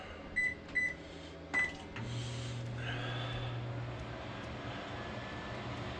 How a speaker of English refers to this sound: The microwave is running. The entire house is still turned on. Let's see how much wattage we're using. Ooh, 2,120.